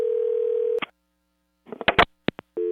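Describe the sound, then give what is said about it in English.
A telephone call is placed: a steady dial tone hums, cuts off with a click, then a quick burst of clicks and keypad beeps follows before the dial tone returns at the end. “To prove it, we called them up.”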